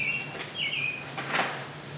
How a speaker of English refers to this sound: The bird really does sound like it's... I think it's a family. I don't think it's one.